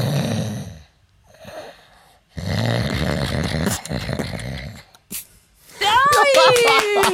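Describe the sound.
A voice imitates contented, blissful snoring: a few rumbling, throaty snore breaths separated by pauses, ending in a loud, wavering whistle on the exhale, cartoon-style.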